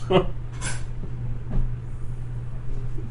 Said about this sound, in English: Got to remember to lock that door next time. You leave and you hear a click.